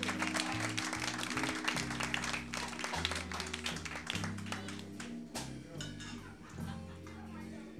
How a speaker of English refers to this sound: Let's give LC a big round of applause for doing a tremendous job with us.